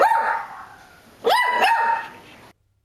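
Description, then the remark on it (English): A small cavoodle named PK Jr. barks sharply a few times, one bark and then a quick pair a second later, with no one talking. “Is this your new dog?”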